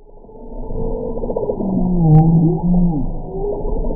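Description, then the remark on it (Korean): A bowhead whale moving in the deep sea calls in a long, low, moaning tone that bends and wavers in pitch, sustained and fairly loud against a deep underwater rumble, with no voices present. “지금 나오는 소리는 깊은 바다에서 움직이는 북극 고래가 내는 소리입니다.”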